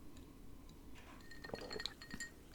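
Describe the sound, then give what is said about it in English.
A glass clinks a few times with bright, short high-pitched taps over a low background hum as someone handles a glass while drinking water during a radio broadcast. “One of them is drinking more water, which I'm going to engage in right now.”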